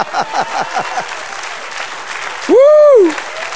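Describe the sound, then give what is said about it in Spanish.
A large crowd claps steadily throughout, a dense wash of applause with scattered sharp whoops early on, then one loud voice cries out over the clapping near the end. “Dale otro aplauso.”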